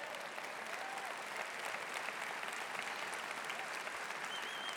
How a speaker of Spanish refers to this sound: Y si quieres aplaudirle por lo que hizo en la cruz, como él se merece, dale un fuerte aplauso.